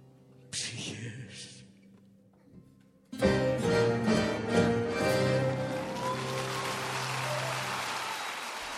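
A loud crash of music gives way to a dense, steady wash of audience applause at a live concert recording at the Odeon of Herodes Atticus, continuing to the end, with sustained instrument tones fading underneath.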